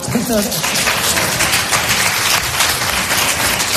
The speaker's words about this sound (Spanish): Te están aplaudiendo, Yolanda, te están aplaudiendo.